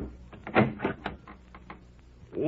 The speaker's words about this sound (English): It was nearly 9 o'clock before they heard a knock on the door.